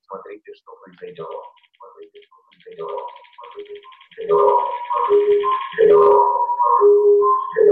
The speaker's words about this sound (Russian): сейчас я говорю в комнате, где стоит Bluetooth-колонка, которая транслирует то, что получает из Zoom. Как слышите, сейчас это не совсем свист, это просто такой прикольный дилей.